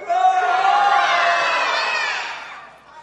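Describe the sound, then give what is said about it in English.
An audience, as the T-Rex team, roars together in imitation of a T-Rex. It is a loud, sustained group shout with whoops mixed in, holding steady for a few seconds before fading out. “Can I hear the T-Rex team roar?”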